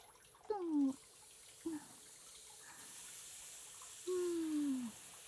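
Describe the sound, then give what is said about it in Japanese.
A shower runs, rinsing a lot of soap foam off a body, with a steady, hissing spray of water throughout, broken by a few short, squeaky falling tones, like a tap or pipe whining, that come and go. “じゃあシャワーを。”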